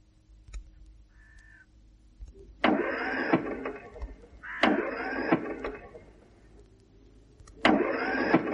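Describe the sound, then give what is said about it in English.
An overheated truck engine, its radiator boiling, cranks in three separate bursts, each a loud, rough grinding whir lasting about a second and never catching. Short pauses fall between the attempts, with no talking. “She still won't start.”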